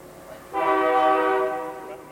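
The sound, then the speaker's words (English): A passing train sounds its horn in one long, loud, steady blast that starts abruptly, then fades gradually as it trails off, over a faint background hum. “Trains roll through here all the time.”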